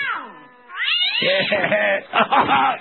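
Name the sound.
cat yowling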